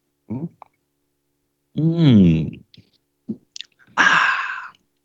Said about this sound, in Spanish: Bueno, gente, vamos entonces a leer la lectura que corresponde al día de hoy, pero antes, un sorbito de café.